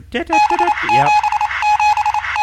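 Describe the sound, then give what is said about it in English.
Rapid Morse code beeps on a single steady pitch, keyed on and off in an irregular rhythm, fairly loud, with a short warbling, voice-like sound near the start. “You do not need to know Morse code.”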